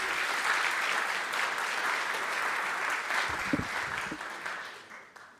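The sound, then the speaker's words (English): A church audience applauds steadily as a pastor comes up, a dense wash of many hands clapping at once. A few brief voices break through near the end as the clapping fades out. “Give him a clap and some encouragement as he comes up.”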